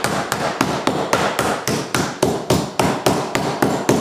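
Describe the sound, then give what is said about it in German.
A mallet pounds meat flat in a steady, fast rhythm, roughly a dozen dull, heavy thuds in quick succession, fairly loud, with no voices. “Das tue ich jetzt klopfen.”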